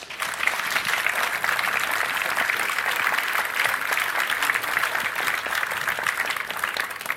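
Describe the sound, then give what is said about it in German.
Sustained audience applause introducing a talk on how to report a security vulnerability, a dense, steady wash of many hands clapping at an even loudness for about seven seconds, with no one speaking over it. “Bitte einmal Applaus.”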